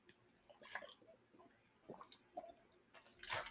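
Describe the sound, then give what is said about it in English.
Soft sips of water with small wet mouth noises and a swallow, spaced irregularly, ending with a brief louder splashy rustle. “I'm going to take some water here real quick.”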